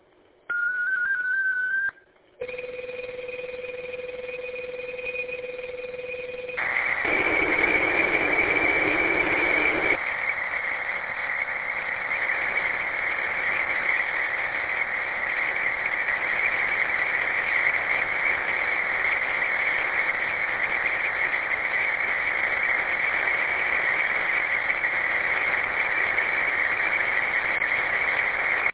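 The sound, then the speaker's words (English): Digital radio transmission tones of a digital traffic message sent by radio station KGTC: a brief warbling beep, then steady paired tones for a few seconds, followed by a loud, continuous raspy data burst that drones on for over twenty seconds with no talking. “Stand by for digital traffic.”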